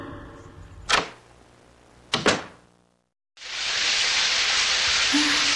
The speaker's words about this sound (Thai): หวังจะให้น้ำแดงๆจากฝักบัวทำให้เราสบายใจขึ้น